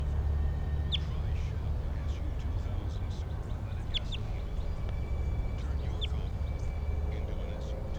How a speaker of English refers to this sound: They're recording the wild bird.